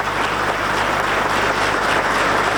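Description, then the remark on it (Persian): Sustained audience applause for US Vice President Pence as he is introduced to speak, a dense, steady wash of many hands clapping at an even, fairly loud level throughout, with no voices standing out. “تشویق حضار رو میبینیم برای آقای پنس، معاون ریاست جمهوری امریکا.”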